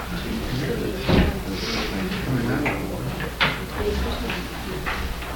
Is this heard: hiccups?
no